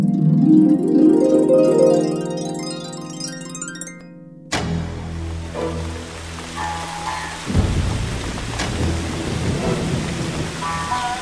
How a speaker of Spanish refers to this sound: no debíamos viajar ahora. Mucho está lloviendo,